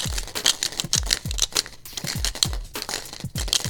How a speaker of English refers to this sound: It's not medicine. If you guessed five dice in a plastic tube, you are correct. These are my four-color poker dice. Five of them in a capillary tube. This is a plastic tube that used to have capillary tubes in it.